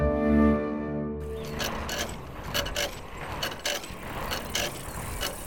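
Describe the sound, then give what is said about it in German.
The scooter on which the Sandmännchen arrives in the children's programme Unser Sandmännchen: a steady droning hum for about a second, then a busy mechanical clatter of rapid ticks and rattling clicks that continues at an even, moderate loudness with no voices. “Mit dem Roller.”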